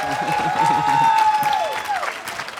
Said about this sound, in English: All right, let's give him one more hand of applause. Thank you.